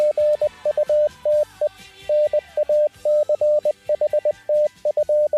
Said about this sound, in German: Ja, und da wir alle morsen können hier beim Funk, weiß ich natürlich, dass das Gute Nacht hieß. Und ich wünsche eine gute Nacht zurück.